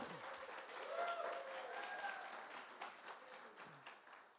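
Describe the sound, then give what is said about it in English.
An audience breaks into steady, dense applause, many hands clapping at once in a continuous wash, with a few faint cheers or whoops rising briefly over it before it gradually thins out. “And now you can clap.”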